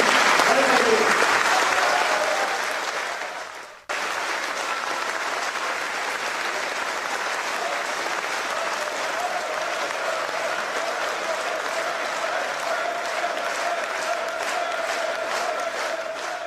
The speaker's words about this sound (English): I mean, it's that reaction and that cheering that I think is significant about that video as much as anything else.